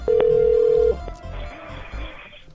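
A single loud, steady ringback tone from an outgoing phone call, lasting under a second, followed by faint line hiss and low background noise.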